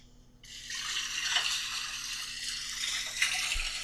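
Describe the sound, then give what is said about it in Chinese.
A tap turns on after a short quiet moment and water runs steadily, a broad hissing splash that stays fairly loud, with a couple of brief clinks or splashes from dishes being washed. “没什么，我帮你洗碗吧。”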